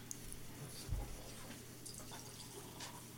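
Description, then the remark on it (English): Beer pours into a glass with a soft, steady liquid splash and faint fizzing, plus a dull knock near the start. No one speaks. “I'm going to pour it in mine.”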